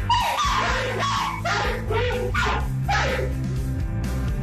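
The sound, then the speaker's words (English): Two dogs in a video bark repeatedly and loudly with no one else present, sharp bursts coming in a fast, overlapping rhythm with a few whiny yips mixed in, over a steady low hum. “Yeah, if somebody you don't know walks into your house, this is how your dog barks.”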